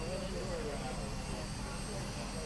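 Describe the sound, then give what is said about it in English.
Helicopter turbine engines spool up, whining and roaring steadily, a dense mechanical drone with a high-pitched tonal hum on top, as faint voices murmur underneath. “Oh, they're spooling up the engines now.”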